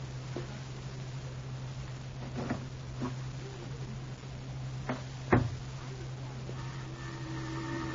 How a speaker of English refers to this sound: first you go into Aunt Trudy's room and close the door